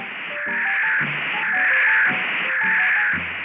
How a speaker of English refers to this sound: Just a couple of college kids triangulating a fox in the dark. You know, normal stuff. Then the static came to a roar.